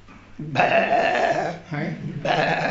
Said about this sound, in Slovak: Je to stádo oviec.